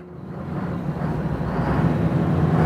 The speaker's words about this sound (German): mach zuerst mal ein bisschen Gas, dann hören wir es mal